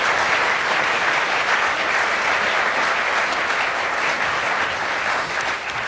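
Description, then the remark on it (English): An audience applauds steadily for about six seconds, a dense, loud wash of many hands clapping with no pauses and no voices standing out. “I think they deserve a round of applause from the audience.”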